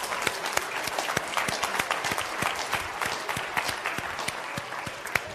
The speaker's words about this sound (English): Give our brother a clap offering.